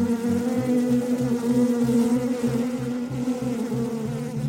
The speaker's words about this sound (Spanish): Estábamos envueltos en la neblina que producía el humador, con miles y miles de abejas zumbando por todos lados.